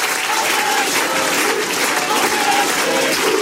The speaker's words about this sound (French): Ce que vous distinguez là dans la foule, c'est le cri « On est chez nous », un cri qu'on entend d'habitude du côté du RN, voire même du Front National d'avant